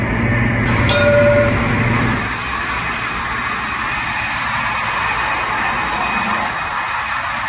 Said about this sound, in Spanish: Este es el sonido del tranvía de Jaén, el tranvía de Jaén que ha realizado su primera prueba 13 años después. El convoy salió de las cocheras de Vaciacostales a medianoche para realizar un corto recorrido.